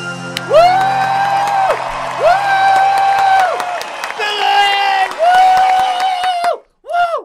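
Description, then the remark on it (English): A concert crowd cheers in long, sustained vocal swells, four rising and falling bursts, with scattered clapping throughout, ending in a couple of short, sharp whoops. “I want to see that clap.”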